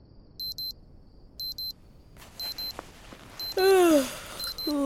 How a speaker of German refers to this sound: Währenddessen klingelt in einem der Zelte ein Wecker.